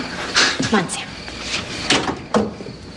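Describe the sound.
A van door that needs fixing is opened and shut in a series of heavy clunks and rattles, with muffled voices in the background.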